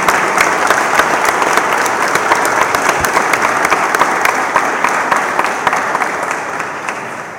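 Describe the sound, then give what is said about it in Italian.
Sustained welcoming applause from a crowd for guest Marcello Barros at a weekend gathering, a dense steady patter of many hands clapping at an even loudness for several seconds, tapering slightly at the end, with no talking over it. “Quindi eccezionalmente questo 6° anno ci ha regalato questa bellezza di weekend da ieri con oggi insieme al nostro amico Marcello Barros, che farei un applauso di accoglienza.”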